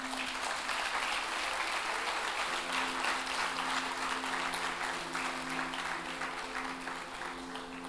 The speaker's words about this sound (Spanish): Si sos tan amable de pasar aquí al frente, vamos a darle un fuerte aplauso mientras llega.